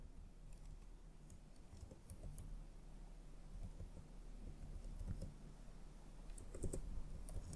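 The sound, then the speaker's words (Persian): Soft, rapid clicking of someone typing a password on a computer keyboard while registering on a brokerage website, keystrokes tapping in uneven bursts for several seconds over a low, steady background hum. “و در قسمت پسورد یا رمز عبور خودتون رو بنویسید.”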